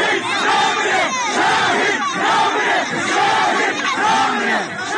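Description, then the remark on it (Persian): A large crowd gathered in front of a house in Piranshahr, Iran, after the killing of a 16-year-old, shouts the slogan "the martyr does not die" in unison: loud rhythmic chanting with rising and falling phrases repeating steadily for the whole stretch, voices dense and overlapping. “حالا کاروان او راهی شده و مردم هستند که فریاد میزنند شهید نمیمیرد.”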